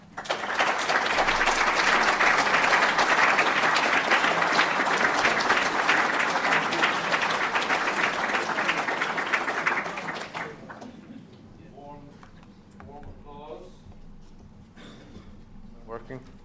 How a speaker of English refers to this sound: Warm applause, Professor. Thank you very much.